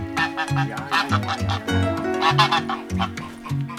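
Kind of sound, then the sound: bird, domestic goose honking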